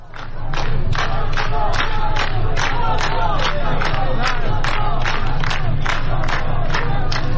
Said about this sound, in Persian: رضا شاه روحت شاد از دیگر شعارهایی بود که در فیلم های مربوط به بهبهان به گوش می رسد.